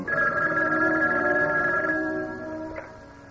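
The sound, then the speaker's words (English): A telephone rings in an apartment with a steady, bright electronic tone, one sustained ring lasting a few seconds before fading out. It is clear, with no voices. “I returned to my apartment, was just finishing a shower, when the phone rang.”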